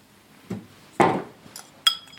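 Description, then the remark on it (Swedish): A glass spice jar with a cork lid is handled in a pantry, with a soft knock, a louder hollow thud, then two bright clinks, the last ringing briefly. Quiet, with no voices. “Och nu ser jag att du har dina ljusa kryddor i likadana burkar med korklock i ditt skafferi.”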